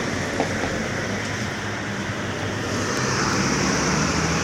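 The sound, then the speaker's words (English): A bus pulls in at a bus stop with a steady, heavy engine rumble and broad road hiss that swells slightly toward the end. It lasts a few seconds, with no voices. “I think it is the bus.”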